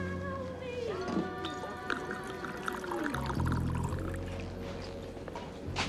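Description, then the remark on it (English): Bourbon pours steadily into a glass at a bar, the liquid's gurgling tone rising in pitch as the glass fills, followed by a lower, heavier splash near the end. Clear. “Henry moves next to her when the drink is poured.”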